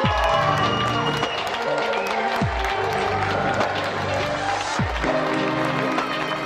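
A large crowd applauds and cheers nurses without pause, a dense, loud wash of clapping and shouting, with a deep thud recurring roughly every two and a half seconds underneath.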